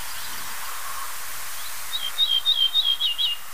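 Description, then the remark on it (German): An ortolan bunting sings a short, clear phrase of about half a dozen high, repeated whistled notes, heard alone over a soft, steady background hiss. “Ach, ich kann nicht genug kriegen vom Ortolan, aber ich verschone euch jetzt.”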